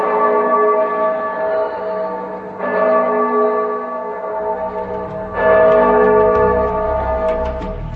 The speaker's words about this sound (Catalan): Al cap d'una estona va arribar la llum de l'alba i es van sentir com les campanes tocaven a morts.